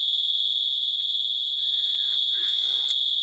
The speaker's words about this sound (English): Unfortunately, I have a fire alarm going off in my building. Oh, is that what that is?